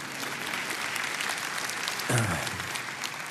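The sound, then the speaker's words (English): An audience in the chapel at Cross Point applauds people who arrived there within the last four or five years, with many hands clapping together in a dense, steady patter that holds at an even level for several seconds, plus a brief low thump partway through. “You can clap for them, they'd like that.”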